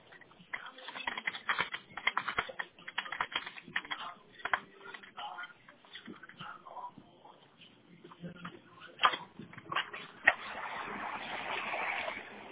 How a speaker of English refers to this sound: They're typing.